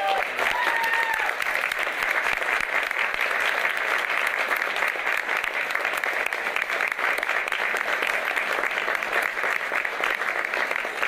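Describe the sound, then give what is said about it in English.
Loud, steady applause from a crowd as Tim Walz signs a bill making Minnesota a trans refuge state, a man in the back standing and clapping; a dense patter of many hands clapping at once with a few faint cheers near the start. “Hey, there's that same guy in the back that he stood and clapped with before, and then they had that little guy standing next to him.”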